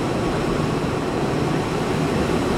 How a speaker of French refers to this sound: Impressionnant le niveau de bruit à ma gauche et à ma droite, des murs entiers de ventilateurs avec des petits fils jaunes et noirs.